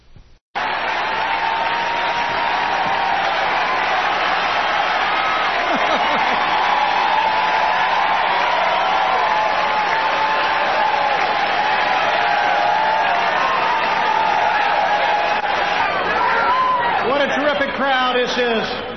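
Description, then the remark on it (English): A large crowd in Houston cheers and applauds in a steady, dense roar lasting nearly twenty seconds, with individual shouts rising out of the noise toward the end. “What a terrific crowd.”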